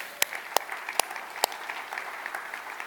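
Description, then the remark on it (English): A crowd applauds steadily to honor a leader who is not present, a dense wash of many hands clapping with a few sharper, louder individual claps standing out now and then. “So he's not here, but let's clap for him anyway.”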